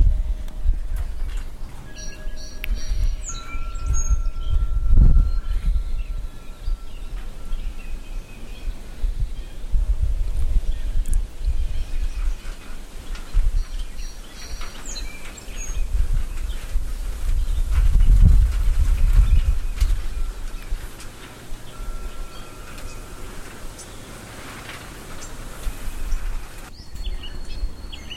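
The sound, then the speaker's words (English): Seeds from a maple tree land on the tin roof of a porch in scattered, irregular taps, set against a low outdoor rumble, with birds calling faintly in the distance. “And you probably hear something hitting the tin roof of the porch, and that is the seeds from my mother's maple tree.”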